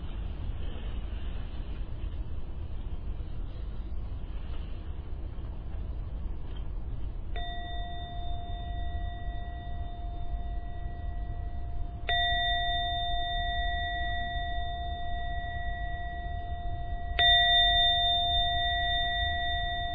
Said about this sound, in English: going to ring the bell 3 times, and after the 3rd chime, please open your eyes and we end the meditation for tonight.